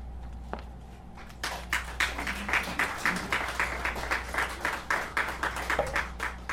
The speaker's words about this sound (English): You see, if you're going to applaud after every poem, then if you don't applaud, then I'm going to have to tear that poem from the book. disown it, so we need to be careful.